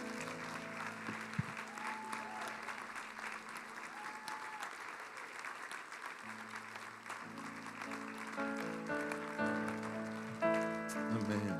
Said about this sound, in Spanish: Ayúdame a darle un aplauso al Señor, si puede ser con un poquito más de fuerza el aplauso.